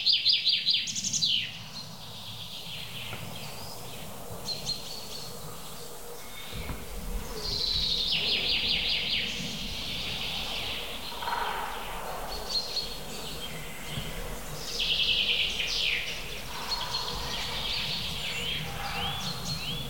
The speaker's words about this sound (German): Ich gebe dem Goldhähnchen jetzt mal kurz eine Chance.